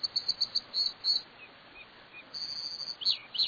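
An American dipper, a lively little riverside bird, sings a run of high, bright chirps and trills in quick bursts, with a brief pause midway, over a steady rushing wash like a stream.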